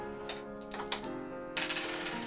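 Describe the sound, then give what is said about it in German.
Dice rolled for a dexterity check in a game tumble and clatter across a hard table: a few sharp, separate clicks, then a denser rattling burst as they bounce and settle. Fairly quiet, with no voices. “Ist der Würfel runtergefallen?”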